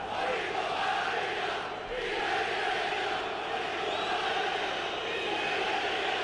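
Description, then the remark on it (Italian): A large crowd of visiting Real Madrid fans chants and roars continuously at the Olimpico stadium during a Roma vs Real Madrid football match, a dense wall of massed voices at steady loudness with a rhythmic, sung quality across the stands. “Fanno sentire, credo, i tifosi del Real Madrid.”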